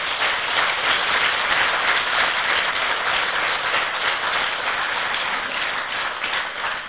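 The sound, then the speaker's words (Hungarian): A crowd claps steadily and densely for several seconds for young student performers from Rétság, a full, sustained wash of applause that holds at an even loudness throughout, with no talking over it. “Na akkor most kérek nekik egy nagy tapsot.”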